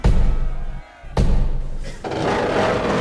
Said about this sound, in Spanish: La puerta.